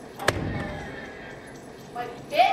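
door slamming shut

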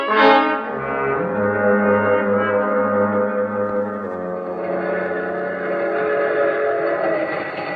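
moving passenger train

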